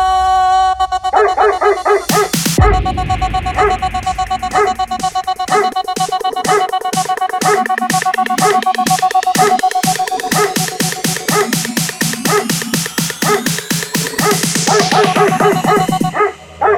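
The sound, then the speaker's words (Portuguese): Repeated dog barks ring out in a steady rhythm over a loud musical backing with sustained tones and a driving beat, continuing throughout. “Late, ui, ui, cachorro.”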